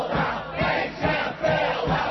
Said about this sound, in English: Those are chants from the streets of Madison, Wisconsin on May 14, 2011. That chant was brought to Madison by professional firefighters of Wisconsin President Malin Mitchell, who heard it during a stop in Portland, Oregon.